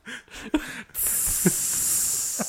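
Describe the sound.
A short voiced noise gives way to a steady hiss, a vocal imitation of a steak sizzling, sustained for about a second and a half with a couple of faint clicks underneath.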